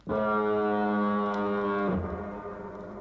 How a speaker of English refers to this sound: That's the sound that every TT rider dreads, the Douglas Foghorn.